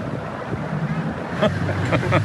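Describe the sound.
A small rented motorboat's engine drones steadily out on the water, carrying a family out to meet a racer at the finish of a race, with gusty wind buffeting the microphone and brief faint voices calling out in the background.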